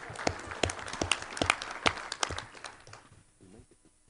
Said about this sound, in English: Let's have a round of applause for Russ McMurray, everyone.